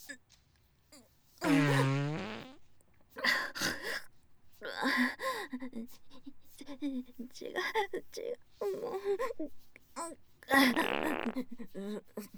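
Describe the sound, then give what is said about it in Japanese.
A loud, droning fart rings out near the start, followed by stretches of talking, then a second buzzy fart near the end, on a train. “なた、またおならしたでしょ。”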